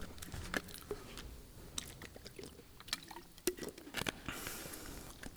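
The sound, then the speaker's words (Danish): Quiet sipping of water: soft wet slurps, small clicks and a few swallows spread over several seconds, with no talking. “Jeg skal lige have en tår vand.”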